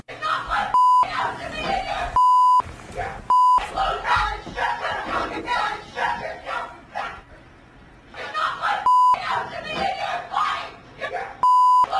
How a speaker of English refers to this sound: Look, the words aren't clear, no, but the sentiment certainly is. The passion is very clear. I'm presuming those beeps were something inappropriate.